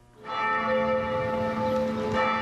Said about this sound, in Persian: هنگامی که زنگ کلیسای معبد قدیمی روین به صدا در می آید، امروز به عوض عبادت کنندگان بیشتر سیاهان در آن حضور یافتند.